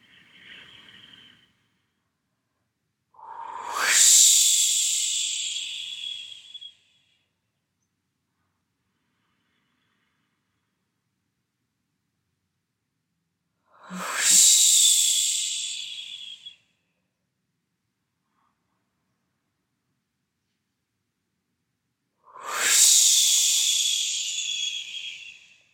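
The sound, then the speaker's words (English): Three long, breathy whooshing exhales in a breathing exercise, each releasing all the air after a held breath, lasting a few seconds and separated by silent pauses, with a hissy, airy texture and no talking. “Release all the air inside of you and make that whoosh sound as you exhale.”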